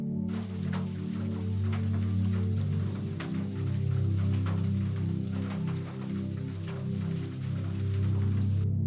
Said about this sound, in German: Oder Regen.